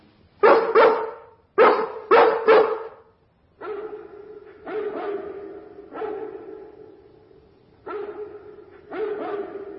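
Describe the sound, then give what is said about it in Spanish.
A big dog, a Great Dane from Hampstead, barks alone at night: a few loud, sharp woofs in quick succession, then a string of longer, deeper, drawn-out barks with short pauses between them. “Es el gran danés de Hampstead.”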